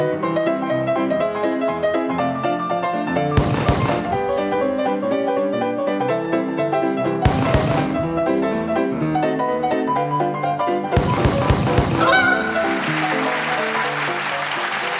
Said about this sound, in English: Consider Chuckers bursting from cover